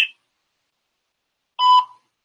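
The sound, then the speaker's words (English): A single electronic voicemail recording beep tone sounds alone after a stretch of silence, steady and clear for about a quarter second, with a faint clipped tone at the very start. “At the tone, please record another your message.”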